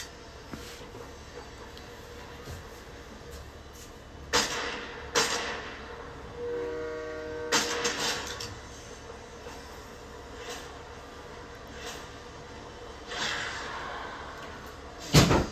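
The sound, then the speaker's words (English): A train rumbles steadily along the tracks, with several sharp clanks and bangs scattered throughout and a brief tonal horn-like blast near the middle. No one speaks. “Get on the train.”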